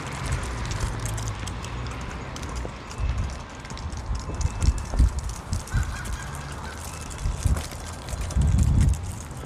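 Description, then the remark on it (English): A goose honks repeatedly in a loose, irregular series of harsh, nasal calls, some louder than others, over a steady background rumble with no one speaking. “Honk, honk, honk, honk, honk.”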